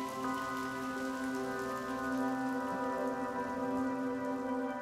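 heavy rain falling

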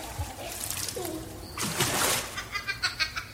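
water splashing

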